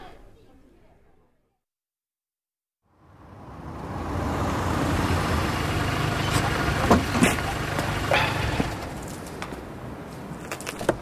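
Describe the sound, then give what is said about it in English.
After a brief hush, a car engine idles with a steady low rumble and broad hiss, joined by a few faint knocks and clicks over the top. “Nice ride. Sorry? Your car.”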